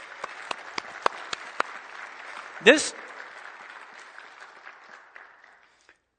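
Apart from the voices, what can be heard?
applause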